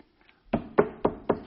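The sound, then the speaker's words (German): Four firm, fairly loud knocks on a wooden door, evenly spaced in a steady rhythm, with a faint quiet rustle just before and no voices. “Ich stehe vor der Tür.”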